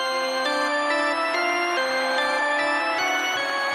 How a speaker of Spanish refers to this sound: Así se escucha cuando registras tus cargas en mi app G500.